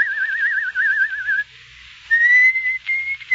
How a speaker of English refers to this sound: You don't like the bird's song, sir? The bird? I thought it was my own mind. That's the song I've been hunting for. Who taught it to him?